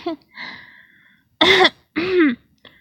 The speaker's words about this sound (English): I think I'm getting a cough.